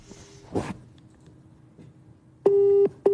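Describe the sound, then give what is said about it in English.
A telephone call tone from phoning a man sounds as a loud, steady electronic beep near the end, then a second beep begins right after a short gap, following a quiet stretch with a brief rustle. “I bet you we're going to phone him and he's going to answer.”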